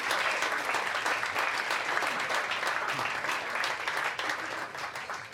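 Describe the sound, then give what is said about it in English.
A crowd applauds the first act of the night steadily, a dense, even wash of clapping with a few cheers mixed in, holding at a constant loud level for several seconds before easing slightly at the end. “There's your friendly crowd. Go crazy for your first act”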